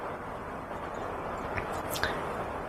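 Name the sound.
rain falling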